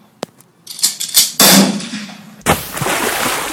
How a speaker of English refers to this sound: Two gunshots.